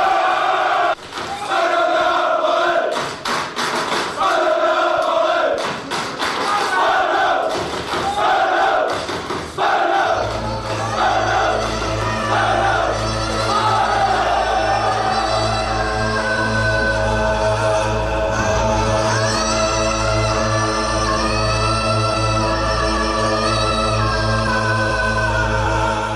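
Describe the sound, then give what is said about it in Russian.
A large gathering of football fans roars and chants wildly, loud, the massed voices rising in rhythmic surges while a deep, steady rumble joins partway through and persists to the end. “Настоящий фанат футбола – это особый стиль жизни, особая татуировка и прическа, желательно бритая голова и идеология скинхедов, агрессия и тайные ритуалы, ненависть к чужакам – и сходки с диким ревом.”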